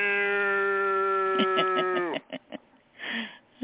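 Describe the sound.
A person gives a long, drawn-out imitation of a cat's meow that holds steady and then drops in pitch, followed by a few short bursts of speech.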